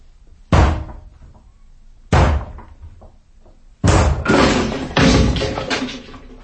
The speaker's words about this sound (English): I'm going to break the door down, or rather we are. Now, I'll take responsibility.